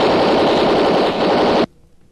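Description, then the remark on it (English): A loud, sustained burst of Tommy gun fire rattles rapidly for about a second and a half, then cuts off abruptly into near silence. No voices are heard. “That machine gun won't do you any good, Race.”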